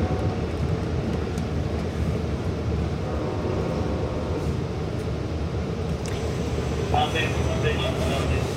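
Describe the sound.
A steady, heavy low rumble fills the inside of a moving train car, continuous and even throughout, with faint indistinct voices and a brief higher metallic tone near the end.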